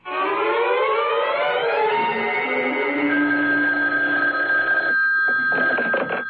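telephone dialing and ringing

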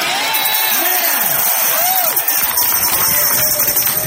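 rally crowd cheering

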